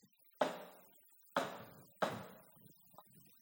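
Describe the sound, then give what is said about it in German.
A hand knocks three times on a wooden door, first restrained, then bolder and more urgent, spaced unevenly with a longer pause after the first, each a sharp, fairly loud thud with a short decay, followed by faint low sounds. “Dreimal schlägt die Hand auf das Holz. Erst vornehm zurückhaltend, dann etwas mutiger, dringlicher.”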